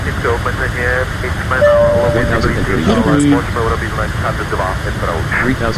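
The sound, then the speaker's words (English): A steady, loud airplane engine drone fills the background without pause as the plane flies close to China, while a voice talks continuously over it. “I think I probably am going to modify this plane at some point.”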